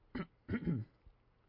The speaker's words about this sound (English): If I could only clear my throat now, I'd be able to read in a normal voice.